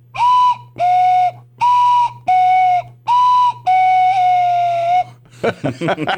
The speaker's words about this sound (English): That was it. And that's our new cuckoo whistle.